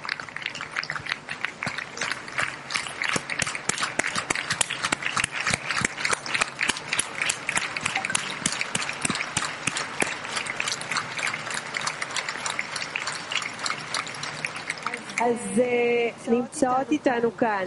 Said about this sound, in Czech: pojďme potleskat tyto úžasné skupině